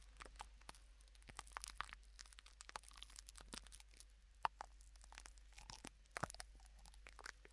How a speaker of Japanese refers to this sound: なんかシャンプーとはまた違う。なんだろう、やっぱりちょっと洗顔フォームに近い細かい泡立ち。